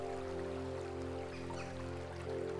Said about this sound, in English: Now imagine you're right next to a stream, washing off the muck from the day. Hear the water bubbling down towards the ocean.